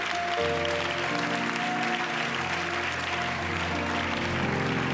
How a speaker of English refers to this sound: If you just repented of your sins, I want you to clap your hands to the Lord right now.